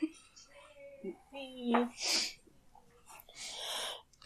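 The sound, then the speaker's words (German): A short voiced sound followed by two harsh, breathy coughing bursts, the second longer and rougher, fairly loud with no talk over them. “Ich muss husten, nee, aber das ist ätzend.”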